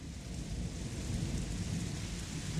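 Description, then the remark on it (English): Heavy rain pours down in a steady, dense hiss while thunder rolls underneath as a continuous low rumble, loud and unbroken throughout with no voices. “Oh, it's really coming down out there.”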